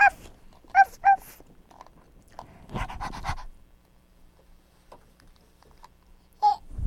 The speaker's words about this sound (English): Any more doggies? Look at the little doggy. Do you want to come see the doggy? She matches your outfit.